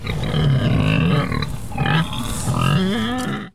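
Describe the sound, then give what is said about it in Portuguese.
A pig grunts and snorts loudly in a rough, continuous stream of oinks for a few seconds, with no talking. “Ih, mas ele pode pensar que eu sou um dos seus porcos e vai querer montar em mim.”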